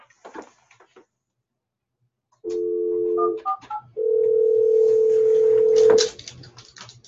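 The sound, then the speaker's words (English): A phone line rings out with two steady, buzzing ring tones, a short one and then a longer one, separated by a few quick beeps. Fairly loud, with no talking. “Answer your phone”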